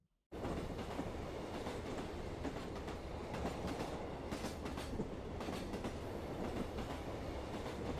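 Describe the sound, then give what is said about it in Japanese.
After a brief moment of silence, an electric train suddenly rumbles along its rails, a loud, steady roar with faint rhythmic clatter that continues without pause. No one speaks. “次の日、いつものように期待を膨らませ、電車に乗る。”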